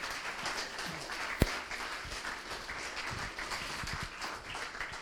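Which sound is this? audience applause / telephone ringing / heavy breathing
audience applause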